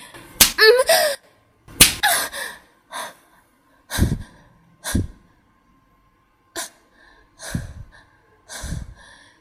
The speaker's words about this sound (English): Thank you, Master. Thank you for slapping me.